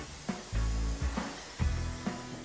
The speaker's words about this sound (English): Then spray the adhesive along the edge of the floor, taking care not to spray it onto the walls.